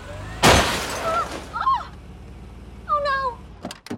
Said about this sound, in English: She just hit my car!